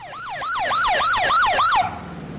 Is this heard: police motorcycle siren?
yes